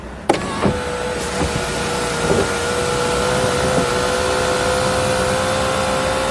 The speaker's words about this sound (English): in an automatic sunroof. I have to turn the ignition on. What is that noise? Listen to the servos. Marvellous feat of engineering. It's almost like music itself. Listen.